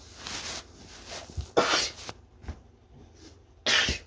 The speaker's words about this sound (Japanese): ごめんなさい、くしゃみが。くしゃみが出ちゃった。今日いきなり寒くなって朝。